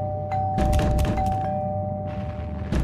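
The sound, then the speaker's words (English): A fist pounds heavily on a door in a quick irregular flurry of dull thuds, pauses, then strikes once more. A faint steady tone hums underneath, and no one speaks. “Now, fist pounding against the door.”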